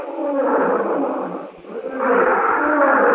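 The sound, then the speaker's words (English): A wild animal roars loudly in the jungle, two long, rumbling bellows separated by a brief dip, with no voices heard, in a dramatization of Edgar Rice Burroughs' Tarzan of the Apes. “Roar, Clayton visualizes Porter and Philander attacked, bleeding, perhaps dead.”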